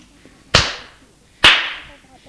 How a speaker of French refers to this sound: Elle se soulève et le gifle.